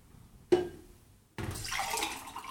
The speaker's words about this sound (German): Wir machen kein Pipi, sondern wir schütten uns gegenseitig Wasser in Gläser. Ja, wir trinken Wasser, tatsächlich.